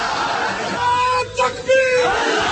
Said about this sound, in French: Longue vie à Oussama Ben Laden, hurlent ces jeunes gens.